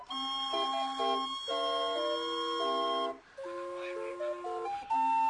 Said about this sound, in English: Yeah, it's a Calliope CD I bought in New Orleans.